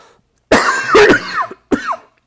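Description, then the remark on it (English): Harsh, throaty coughing right up against the microphone from someone with a bug in their throat: a loud cluster of rough coughs, then a brief pause and one more sharp cough, with no talking. “I hate coughing in the mic.”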